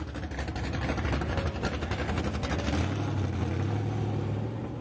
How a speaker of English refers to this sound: Okay, that's race cars, but where are they from? I think that's in Milan, Michigan again. Milan, Michigan.